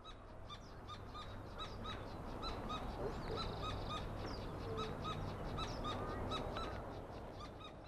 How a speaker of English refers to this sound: But eventually they did get some excellent bird sounds, and here they are.